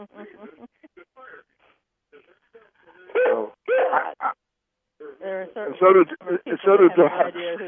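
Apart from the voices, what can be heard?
dog making noise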